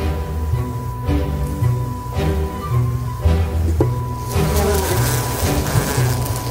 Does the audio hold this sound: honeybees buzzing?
yes